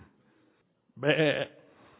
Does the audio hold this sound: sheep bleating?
yes